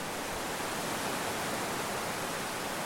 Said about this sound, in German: In jedem von ihnen ein Bach. Mal ein Rinnsal, mal ein Wasserfall, der bergab stürzt.